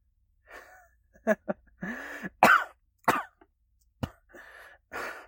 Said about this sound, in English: Somehow I managed to laugh in between my coughs